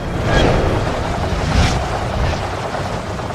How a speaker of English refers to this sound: It quickly grows into a giant magical fan and blasts the side of Steelbeard's sails with a mighty gust of wind, rocking him violently to the side.